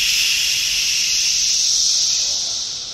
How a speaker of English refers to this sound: What's so interesting about the cicada sounds is when you just hear it for the first time, you just hear white noise. You just hear